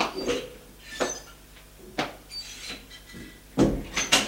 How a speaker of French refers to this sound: Il va ouvrir une porte à gauche.